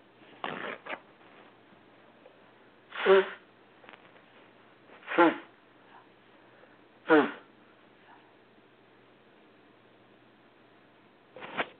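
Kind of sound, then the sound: human body sound, nose blowing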